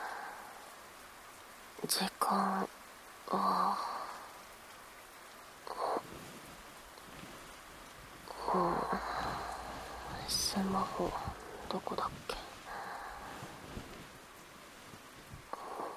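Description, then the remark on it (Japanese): Steady rain hisses softly in the background throughout, with a few brief bursts of sound and a person speaking quietly over it. “うん、雨降ってる。”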